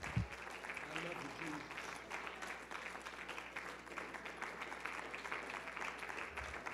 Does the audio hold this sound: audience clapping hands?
yes